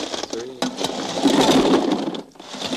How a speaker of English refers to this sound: I'll get some ice and some rock salt. Okay. Okay. Now, I'm going to pour the ice in. Would you let me know when there's about 3 inches of ice in there?